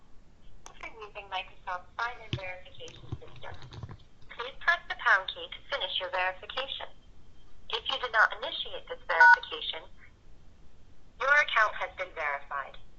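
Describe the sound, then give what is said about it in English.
An incoming telephone call with a muffled, tinny voice talking in bursts, broken up by a few short touch-tone keypad beeps, including the pound key, scattered between the phrases. “I got a phone call coming in.”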